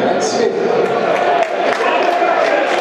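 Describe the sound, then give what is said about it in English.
A stadium crowd at a Millwall match against Stoke claps and applauds as Matt Smith comes on as a substitute for the injured George Evans in the 47th minute, a dense, steady wash of many hands and voices that stays loud for the whole stretch, with no single voice standing out. “Claps and applause for that move.”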